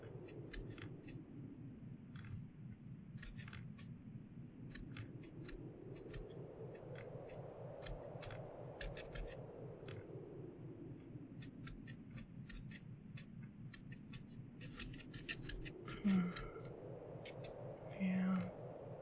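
Scissors snip through hair in quick, irregular bursts of crisp little cuts, over a steady low droning hum that rises and falls slowly in the background.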